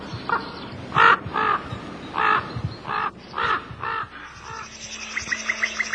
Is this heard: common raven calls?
yes